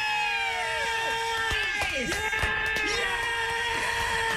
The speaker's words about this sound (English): All right, I'm going to play this little bit of song at you, and if you can identify who it is and what the song is